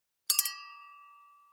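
Glasses of juice clink together in a toast celebrating a move to a new home, three quick bright taps close together, followed by a clear ringing tone that fades slowly over about a second.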